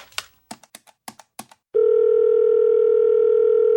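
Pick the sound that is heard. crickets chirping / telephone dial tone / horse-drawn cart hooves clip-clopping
telephone dial tone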